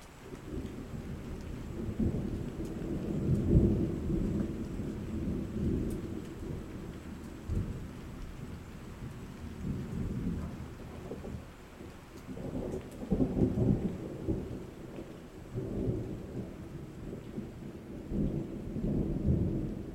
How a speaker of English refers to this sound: Storms skim the horizon. My pulse speeds up as electricity builds in the air.